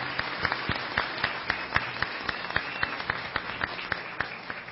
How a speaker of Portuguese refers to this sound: Aplausos à mesa diretora da Câmara Municipal de Formosa 2017.